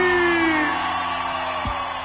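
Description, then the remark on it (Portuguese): A loud crowd at a live music performance shouts and cheers continuously in answer to the singer's call for a strong shout, a dense wall of voices with a few rising and falling whoops cutting through. “Quero ouvir um grito bem forte.”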